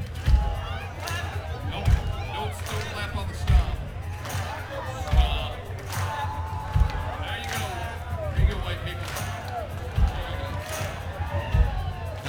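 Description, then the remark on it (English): An audience keeps a steady rhythm of heavy foot stomps punctuated by sharp claps, repeating every second or two, with a murmur of voices underneath, stomping and clapping along to an Irish drinking song. “And then a little clap. Stomp. Then a clap.”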